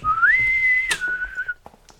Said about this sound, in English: I'd like to hear a bosun's whistle as I move my way into my nautical chambers.